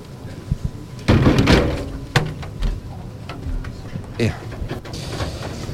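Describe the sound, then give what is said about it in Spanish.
A heavy wooden church door of the San Lorenzo parish swings shut at the end of Holy Week with a loud, booming thud followed by a sharp latch clank, then a lingering rumble and scattered clatter, with crowd murmur in the background. “Los últimos nazarenos que permanecían aún detrás del paso, y esta va a ser la puerta que cierre la Semana Santa aquí en San Lorenzo, esta que ya van ustedes a escuchar.”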